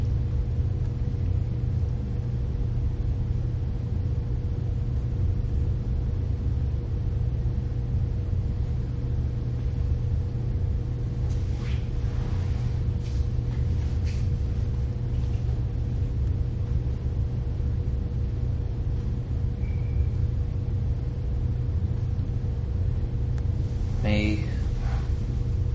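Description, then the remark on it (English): A steady, unbroken low hum of fans runs throughout with a faint tonal whine on top, joined by a few soft clicks midway and a brief higher chirp near the end. “Notice the humming of the fans.”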